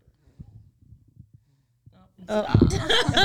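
A baby snoring: soft, low, irregular snuffles at first, then a sudden loud, raspy, rattling snore that fills the last second.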